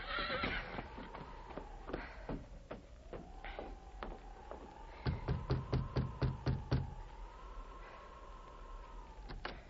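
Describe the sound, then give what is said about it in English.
A horse, Victor, whinnies in a long, wavering neigh while hooves clop unevenly, then a quick run of sharp, regular hoofbeats as Dan Reed reins it up at the back door of Mother Willard's rooming house in Frontier Town, with a few more clops after. “He reined up at the back door of Mother Willard's rooming house. Hold, Victor. Hold, anyway.”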